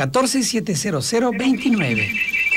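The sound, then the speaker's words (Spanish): A phone rings with an incoming call, a steady, high electronic tone under continuous talk, entering partway through and holding to the end while a person keeps speaking over it. “Ya hay una llamada”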